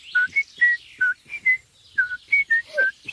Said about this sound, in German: pfeift sogar vor Freude seine Lieblingsmelodie.